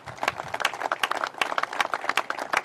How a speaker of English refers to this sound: That's great news. Let's give the Seneca Nation and Seneca Gaming Corporation a great round of applause.